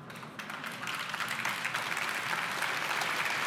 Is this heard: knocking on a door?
no